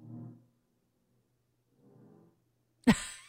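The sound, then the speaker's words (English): A voice imitates snoring with a low, rumbling snore, then a fainter second one after a pause, followed by a sudden louder, raspy vocal burst at the end. “So that's kind of sounds like her snoring.”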